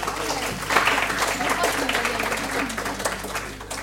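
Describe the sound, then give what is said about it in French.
An audience applauds children in a dense, steady burst of many hands clapping for around four seconds, with a few voices mixed in beneath the clapping. “Merci beaucoup, les enfants. Vous pouvez les applaudir.”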